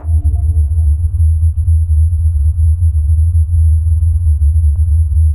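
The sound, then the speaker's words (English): A deep, steady humming rumble drones on without a break, loud and slightly throbbing, with a faint higher tonal hum over it at the start that fades away after about a second. It is the strange low-frequency humming sound heard by residents of Taos, New Mexico, in 1991. “It was described as a low-frequency rumble, like the sound of a distant engine running.”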